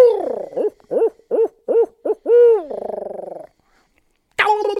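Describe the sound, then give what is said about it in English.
A rhythmic series of loud owl hoots from a locator call used in the morning to locate birds, rising and falling in pitch, ending in a rolling trill, followed by a short pause and a sudden sharp squawk. “So, you know, I try to stay about 150 yards out and do some locating with owl calls is what I use mostly in the morning.”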